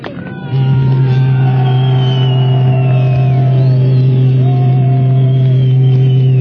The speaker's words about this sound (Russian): Первый грузовой состав идет по серебряному звену.